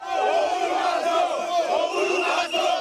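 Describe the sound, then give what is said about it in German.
Dozens of angry opposition protesters march through the Mathare slum in Nairobi, Kenya, shouting and chanting together. A dense, loud wall of many overlapping voices holds steady throughout, with rising and falling yells and no single speaker standing out. “Dutzende aufgebrachte Demonstranten ziehen durch Nairobis Slum Mathare und brüllen ihre Wut heraus.”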